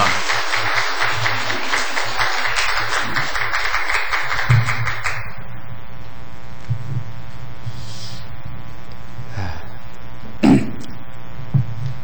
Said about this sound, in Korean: 우리 박수로 환영하겠습니다.